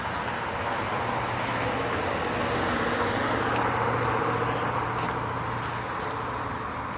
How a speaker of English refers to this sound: So we seem to have, that's interesting, a car just went by, it's a Shelby Cobra. And it seems like we have 8 or 10 of these Shelbys around town.